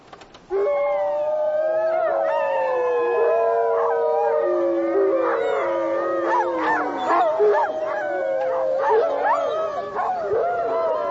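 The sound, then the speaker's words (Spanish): A chorus of wolf howls, several overlapping long wavering cries with higher yips, loud and continuous for about ten seconds. It is a farmer's recording of rival wolves played through a loudspeaker, with the sound aimed by a dish toward the forest. “El granjero tiene que poner la grabación de los aullidos de lobos rivales cada día y cada vez que oiga a una manada de lobos salvajes aullando desde lejos.”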